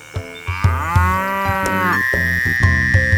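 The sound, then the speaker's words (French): A single drawn-out moo from an ox, loud, rising and then sliding lower over about a second and a half, with a steady rhythmic musical backing underneath. “Une grenouille vit un bœuf qui lui sembla de belle taille.”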